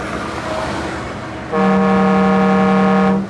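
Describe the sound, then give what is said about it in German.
A single long, loud blast of a car horn, pressed by the driver with the car window opened a little, steady and brassy, sounds for nearly two seconds over low traffic rumble, then cuts off abruptly. “Ja, warte mal, ich mache hier mal das Fenster ein bisschen auf und drück mal aufs Horn.”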